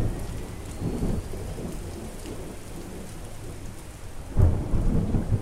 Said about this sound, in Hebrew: גשם החל לרדת.